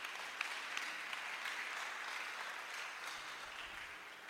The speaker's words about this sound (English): I thought you'd be clapping your hands for this one.